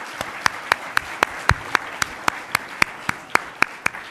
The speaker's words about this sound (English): So please help me give them another round of applause.